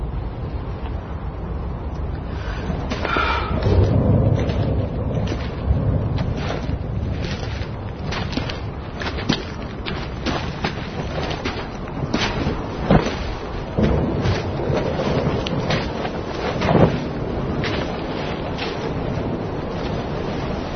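Strong, steady storm wind roars without letup, with sharp gusts buffeting hard and occasional deep thuds rumbling beneath. No voices can be heard.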